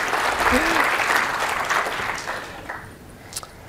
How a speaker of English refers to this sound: Okay. Hooray. Awesome. So yes, applause, yeah, please.